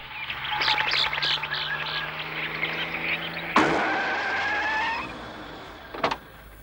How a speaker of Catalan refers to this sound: Un cotxe s'apropa pel camí que rodeja les muntanyes.